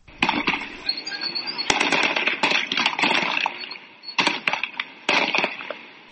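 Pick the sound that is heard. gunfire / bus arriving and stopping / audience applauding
gunfire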